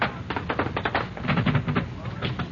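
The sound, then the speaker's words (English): A rapid, uneven series of sharp knocks on a door, steady in loudness, continuing for a couple of seconds with a faint low murmur beneath. “Someone is knocking on the door.”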